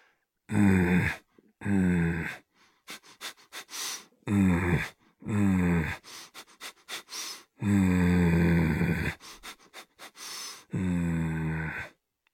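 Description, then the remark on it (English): During a breathing exercise, a person imitates a leopard with a series of loud, rasping growls on forceful breaths, each lasting about a second, alternating with quicker, choppier huffs and panting breaths. “And then we'll do a few leopard. A leopard growls.”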